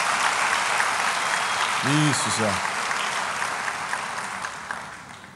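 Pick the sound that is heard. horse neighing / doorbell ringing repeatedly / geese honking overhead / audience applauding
audience applauding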